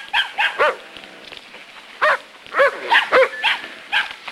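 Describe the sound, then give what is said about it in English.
A terrier barks in a flurry of sharp, high-pitched, loud yaps, about eight or nine in irregular bursts with short pauses, after chasing a puppy into an alley and cornering it inside a hollow crate, with no talking. “The terrier notices and sets off after it, running into an alley.”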